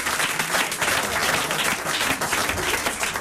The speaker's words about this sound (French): on t'applaudit!